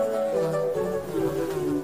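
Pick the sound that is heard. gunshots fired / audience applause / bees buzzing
bees buzzing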